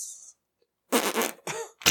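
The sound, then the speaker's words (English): A brief hiss, then after a pause a few rough, breathy bursts: someone vocally imitating a fart, with no clear words. “Have you ever been haunted by something like a fart?”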